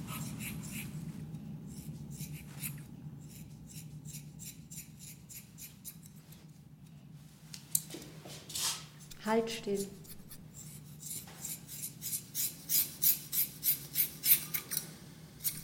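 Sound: scissors cutting hair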